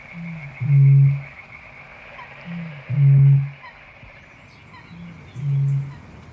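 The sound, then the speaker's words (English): A Eurasian bittern booms three times at steady intervals, each deep, hollow low note preceded by a soft intake-like grunt, carrying over a faint hiss of marsh ambience. “And then sank back into a melancholy, throbbing murmur once again. The booming of the bitter.”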